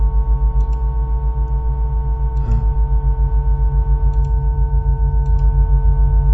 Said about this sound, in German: Hier zum Beispiel hört man das Knarren.